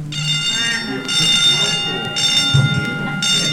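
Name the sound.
three bell rings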